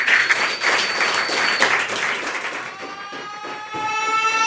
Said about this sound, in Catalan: Doncs un fort aplaudiment per Vesna Bulovic. Que entra al búnquer.